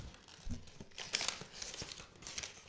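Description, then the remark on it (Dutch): Gift wrapping paper from a bookshop crinkles and rustles, with bursts of tearing and crumpling as a birthday present is unwrapped, a continuous scratchy noise with sharper peaks over a couple of seconds. “Het is wel mooi papier.”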